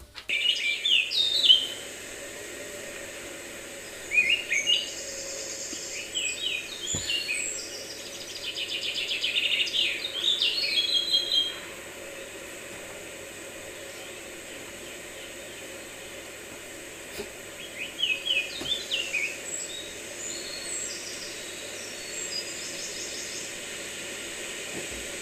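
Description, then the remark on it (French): Far-off bird calls chirp in short bursts, with pauses between the phrases, heard faintly over a steady background hiss. No one speaks. “un son d'oiseau.”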